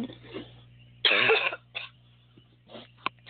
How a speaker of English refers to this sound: I apologize. I'm feeling a cough coming, so 1 second here.